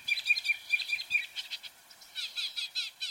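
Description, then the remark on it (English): A mockingbird sings alone, clear, running through quick bursts of repeated whistled notes, then a buzzier phrase, then another rapid series of chirps. “If a mockingbird had an accent, it would be a thick southern drawl.”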